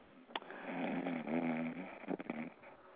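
A loud snore: one long, rattling drawn-out breath with a buzzing, throaty rumble, ending in a few short snuffling catches. No one talks.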